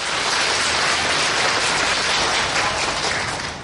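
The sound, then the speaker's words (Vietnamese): A crowd applauds steadily for a few seconds, dense overlapping claps forming a loud, even wash of sound with no voices, fading slightly at the end. The applause is given as a sign of agreement with the speaker. “Nếu đồng ý cho một tràng pháo tay.”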